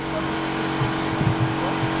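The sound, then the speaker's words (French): A loud, steady jackhammer on a construction site, used to make holes in the ground, hammers away in a continuous mechanical rattle with a low droning rumble, briefly swelling in a few heavier thumps, with no voices. “C'est le marteau piqueur. Il sert à faire des trous dans le sol.”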